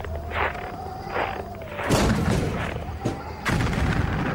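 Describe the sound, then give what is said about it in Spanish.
A tank's cannon fires a heavy shot that booms out over a droning, whining engine, its roar lingering, followed moments later by a second loud blast. “El disparo del tanque rompe la monotonía de la marcha.”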